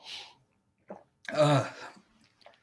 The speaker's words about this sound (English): Excuse me. I can cut out the coughing in post-production, so don't worry. Thank you. I'm just noting down when it happens, so I'll be able to go back and edit it out.